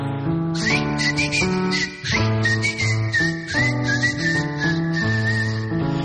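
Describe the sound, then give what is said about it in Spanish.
Someone whistles a lilting tune, a clear steady melody carried high above a full instrumental accompaniment that plays continuously underneath, with no one talking. “Me paro en aquella esquina, cueste tanguite, me pongo a chiflar.”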